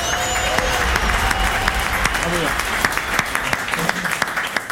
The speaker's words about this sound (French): Et puis, pour fêter ce 14e point, on vous applaudit.